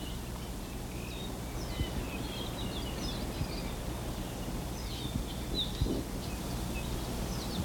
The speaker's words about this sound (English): The squeaky sounds are probably Apapanis. The more buzzy ones, there, that was an Omakihi.